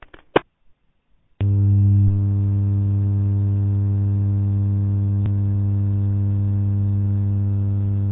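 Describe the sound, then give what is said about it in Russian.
A loud, steady mechanical hum starts abruptly after a brief click and drones on without change, like a bank of cooling fans in a server room. Nobody speaks. “у меня такое ощущение, что ты сидишь в серверной, вентиляторы, ну, сильно громко слышно.”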